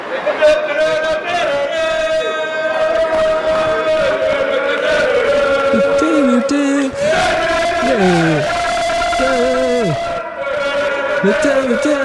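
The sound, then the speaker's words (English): A small group of about six male football fans sings a rowdy chant together on a train platform, their voices loud and continuous, with swooping pitch slides and shouts riding over the steady melody for the whole stretch. “And they were all jumping around, and this is what they sounded like on the platform right next to me while I was waiting for the train.”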